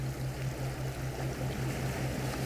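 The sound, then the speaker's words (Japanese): Ocean waves make a steady, constant wash of noise at moderate loudness, with a low droning hum running underneath and no voices. “まだ波の音が聞こえていることにも気がつきます。”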